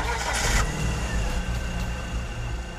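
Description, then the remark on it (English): A Mercedes car engine turns over with a brief hissing, whirring crank, then settles into a steady low idle rumble with a faint whine running through it. “But Ivan would have left his boots, his shirt, and his cell phone inside their house, and left his Honda Accord parked out front as the garage door opens, and he gets in Amy Kitchen's Mercedes to leave the scene of the crime.”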